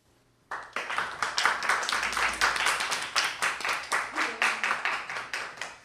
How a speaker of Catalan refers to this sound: Un aplaudiment.